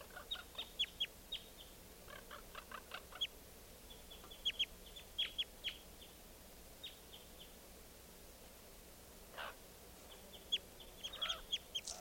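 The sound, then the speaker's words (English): A very weak wild bird flaps its bill, making irregular clusters of short, sharp, high-pitched clicks that come and go over a steady background hiss. No one speaks. “Flapping his bill now. Wild bird very weak.”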